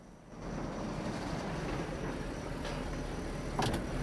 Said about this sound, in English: The car stops at the entrance, reverses into a three-point turn, then drives off again.